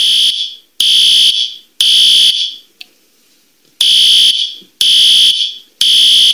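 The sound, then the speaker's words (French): A loud electronic fire alarm of the kind used in commercial, industrial and institutional buildings and places open to the public sounds in a three-pulse pattern: three harsh, high-pitched buzzing beeps, a short pause, then three more. No one speaks. “Donc, il y a la tonalité aussi que l'on retrouve dans les lieux commerciaux, industriels, institutionnels ou qu'on le reçoit, le public, se fait entendre comme suit.”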